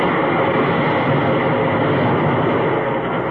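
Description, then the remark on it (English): A train rumbles past, a loud, steady roar of wheels and carriages that fills the whole few seconds without fading, with no voices over it. “I see the train leaving right on the edge.”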